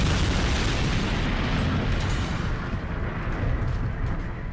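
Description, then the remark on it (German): A massive explosion as a meteorite about 10 kilometres in diameter strikes in the region of Mexico, creating a gigantic fireball: one continuous, heavy rumble spanning deep bass to hissing highs, staying loud throughout while the brighter crackle gradually thins out. No voices. “Und schlägt dann im Bereich jetzt von Mexiko ein und erzeugt einen gigantischen Feuerball, der dann eben auch Staub und Gestein bis in die Erdatmosphäre herumwirbelt.”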